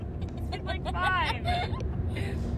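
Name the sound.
car interior noise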